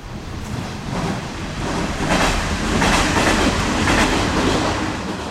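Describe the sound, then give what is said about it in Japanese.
A short two-car train rolls past on the tracks in front of a campsite in Japan, its wheels making a steady rhythmic clatter over the rail joints, swelling in loudness as it passes, with no voices. “あのね、すごい短い電車なんですけど、”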